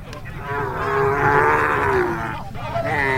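A long, drawn-out cow moo rises and swells over about three seconds, loud, with a rough low rumble of background noise from a busy outdoor livestock market, where cattle stand tethered in pens made from tree branches.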